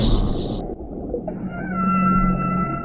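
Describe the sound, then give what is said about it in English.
A kraken sea monster's call: a low, continuous rumble gives way to a long, eerie whale-like moan with steady, wavering tones, preceded by a brief burst of hiss. “I will command the Kraken to capture the mechanical.”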